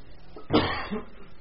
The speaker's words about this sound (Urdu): کھانسیوں کے بہت سارے آج کل اقسام چل رہی ہیں ٹائپس, تو اگر کھانسی ہے تو ماسک لگا لیں.